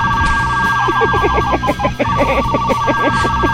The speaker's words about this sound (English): Is that the fart phone? Yes. Was that the fart phone? That was the fart phone. I want to hear that again. It's the fart phone. Oh, God. Oh, my God. The fart phone.